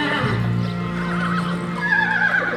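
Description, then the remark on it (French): A horse whinnies loudly, a long quavering neigh rising toward the end, while the hooves of a horse and a mare clip-clop at a trot underneath. No one speaks. “Le cheval et la jument montent au petit trot.”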